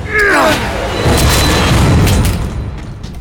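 A door is forced open with a heavy booming crash that rumbles on for a couple of seconds, preceded by a brief strained vocal grunt as the impact lands.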